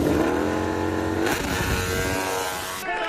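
A motorcycle engine revs loudly, its pitch climbing through a sustained, roaring burst before the tone shifts and settles near the end. No voices are heard.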